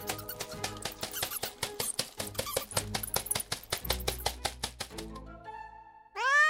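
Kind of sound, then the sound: animal, cat meowing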